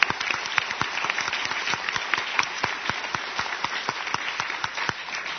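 An audience applauds in a steady round of many overlapping claps, with sharp, dense bursts that keep up at an even level for several seconds and no voices heard.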